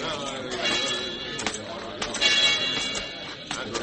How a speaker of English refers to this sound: All right, Rafe. You can stop ringing that bell. Now that everyone in town is gathered here, you can judge for yourselves whether I'm right or not.